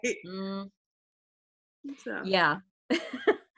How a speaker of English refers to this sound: there's the big dramatic like love confession talk with, you know, Buffy and Angel, and then when we kind of got another snippet of that here, but it's like the awkward, like, you know, Xander stepping in with his awkward little cough, right?